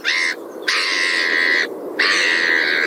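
Three long, harsh, squawking seagull cries follow one another with short pauses between them, loud, with no talking.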